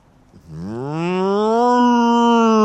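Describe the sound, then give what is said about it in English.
A person imitates a cow to get cows to moo back, letting out a single long moo that starts low, swells upward and holds steady, loud with no other sounds around it. “No, just trying to get these cows to moo.”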